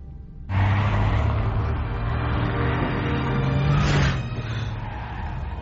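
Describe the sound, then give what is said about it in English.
A car engine starts up abruptly and runs loudly and steadily, with a brief rise in revs near the end before settling back to a rumbling idle. “I'm guessing you didn't rent this car?”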